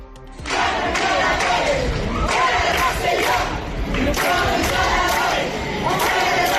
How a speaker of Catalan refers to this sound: Entre d'altres, són crits que es van sentir ahir a la manifestació de Rosselló.